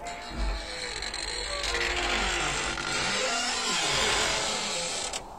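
A long, groaning creak like a coffin lid opening, with slow heavy footsteps thudding underneath and a dog's wavering howl rising and falling over a dense, eerie background.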